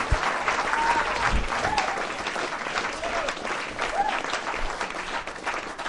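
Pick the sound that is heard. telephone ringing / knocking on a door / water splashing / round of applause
round of applause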